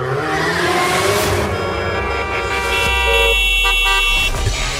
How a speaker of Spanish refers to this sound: El claxon en tu auto es solo para una emergencia, no para faltar al respeto a los demás.